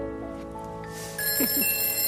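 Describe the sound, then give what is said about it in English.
A telephone rings with a bright, sustained metallic bell tone that swells louder partway through, clear, with no one talking over it. “Is that the phone ringing? It is.”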